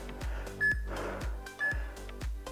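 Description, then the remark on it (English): Two short electronic beeps from a Tabata interval timer app on an iPad during a workout, evenly spaced about a second apart, over a steady run of low rhythmic thumps; no one speaks. “she's about to beep”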